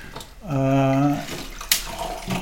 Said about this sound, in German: Aus dem Kraichgau, Weingut Heidlinger und es ist ein Chardonnay und darf ich den euch mal einschenken? Unbedingt. So, unbedingt. Unbedingt. Dann jeder kriegt ein kleines Schlückchen.